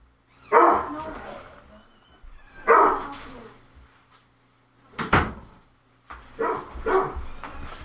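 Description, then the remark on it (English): A dog barks in a few separate loud bursts, with pauses between them. A sharp knock like a door or cupboard closing sounds partway through. “Now the dog's barking.”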